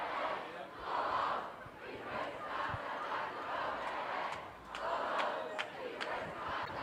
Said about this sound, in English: Chant of hey, hey. Ho ho, these racist cops have got to go.